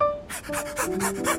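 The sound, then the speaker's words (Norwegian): A person imitates an ordinary dog panting, with rapid, rhythmic breathy huffs repeating about five times in quick succession, fairly loud, with no other talking. “Først, ok, en vanlig hund.”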